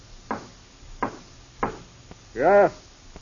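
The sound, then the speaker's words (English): Three firm knocks on a door, evenly spaced about half a second apart, followed by a brief spoken reply from a voice. “All you have to do is lift your arm and knock on the door.”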